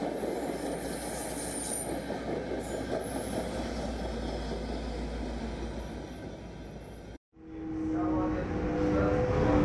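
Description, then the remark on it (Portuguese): A train rumbles loudly and steadily, cuts out for a moment, then returns with a high wheel squeal as it rolls into a station platform. “Passageiro, ao desembarcar, observe o espaço entre o trem e a plataforma.”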